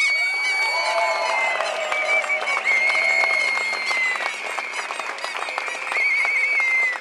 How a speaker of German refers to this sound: Das Gehupe während der Reden waren die Trecker, die sich so langsam auf den Heimweg machten.